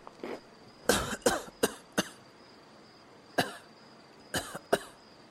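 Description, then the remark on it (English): A man, turned onto his side, coughs up water in harsh, sputtering bursts: a quick cluster of coughs, a short pause, then another racking fit, with no talking. “I turned onto my side and coughed up more water.”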